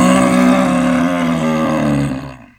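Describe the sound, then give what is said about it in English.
A loud, bellowing creature roar rings out alone as the creature is defeated in a dice game, deep and rumbling, holding steady for about two seconds before quickly fading away. “So he lets out a loud, bellowing roar.”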